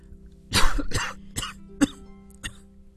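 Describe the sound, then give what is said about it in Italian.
A burst of coughing toward the baby Jesus in a nativity scene, two heavy coughs followed by three lighter, spaced hacks, fairly loud with no speech, over a steady low hum. “No, non tossire sul bimbo.”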